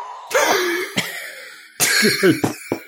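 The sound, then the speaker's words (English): A close, harsh coughing fit: two clusters of several rough, explosive coughs in quick succession, separated by a brief pause, loud and alone with no talking. “I'm still getting over a cough.”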